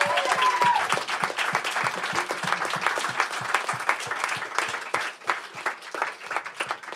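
An audience at a live evening event applauds itself for showing up, dense overlapping claps at a steady loud level for several seconds, thinning slightly toward the end, with no talking over it.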